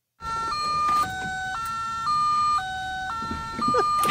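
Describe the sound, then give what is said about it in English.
A Mark III Volkswagen car warning chime, sounding when the keys are in but the seatbelt is not buckled: a loud electronic tone stepping steadily between two pitches, each note held about half a second, repeating in an even, insistent pattern. “That's the Mark III Volkswagen. You have your keys in, but you're not buckled up. Chime.”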